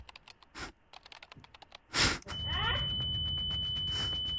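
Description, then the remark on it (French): A steady, high-pitched electronic beep from a computer processor starts midway and holds one unbroken tone to the end, after a run of soft keyboard-like clicks and a brief rushing burst. “J'ai activé un bip sonore qui provient directement de son processeur.”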